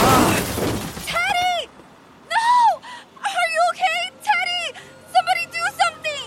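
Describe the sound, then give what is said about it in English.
A sudden, loud crash of a car striking a young male cyclist, with a sharp cracking and shattering burst as his brand-new helmet is smashed and cracked open, followed by a person's pained, wavering cries and moans. “Was this young man hit by a car? Yes, and I'm concerned because his helmet is smashed and cracked open.”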